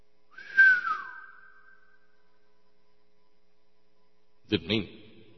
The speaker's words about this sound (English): Didn't mean to have the reverb on the whistle there.